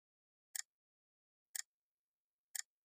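A clock ticks steadily, three crisp clicks about one second apart, each with a slight doubled snap, against complete silence with no voices.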